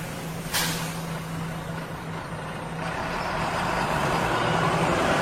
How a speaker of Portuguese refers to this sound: 5h49, piazada, 5h49, numa sexta-feira, chovendo, garoandinho, e daí, tá na hora ou não tá na hora, será? Não, acho que tá na hora, vamos deixar passar então o ônibus nessa sexta-feira.